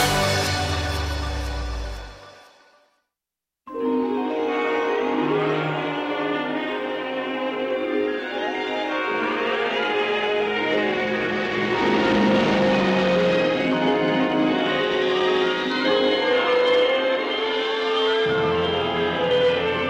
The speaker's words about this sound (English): You just heard is the opening for TV's Fantasy Island.